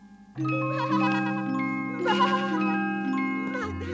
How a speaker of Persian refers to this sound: منم بزکی زنگوله پا، برمی جم دو پا دو پا، چار تا سمم به زمین، دو تا شاخم تو هوا.